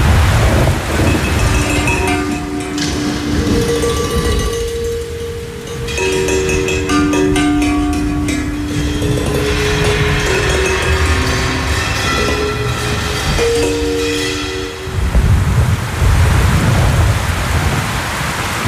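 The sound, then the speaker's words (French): Heavy rain pours steadily throughout on a dark night, with deep, loud rumbles of thunder rolling in and out as lightning flashes, heard under an openwork roof among trees. Faint tonal hums drift underneath the downpour, and no one speaks. “On va écouter l'orage et la pluie”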